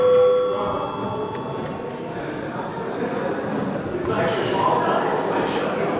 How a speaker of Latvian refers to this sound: Lūdzu, zvanu.